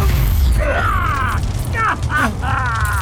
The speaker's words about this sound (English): Anyway, I don't think it's really going to explode. That's just the circuits frying, and there's not enough fuel.